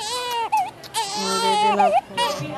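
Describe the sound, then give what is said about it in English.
Newborn babies crying in a crowded hospital maternity ward in the Philippines, full of hundreds of new mothers; high wavering wails overlap one another almost without pause, loud, with a lower steady hum of voices or room noise underneath. “I'd heard a lot about Fabelia Hospital before arriving in the Philippines, but nothing prepared me for the sight of a maternity ward overflowing with hundreds of new moms.”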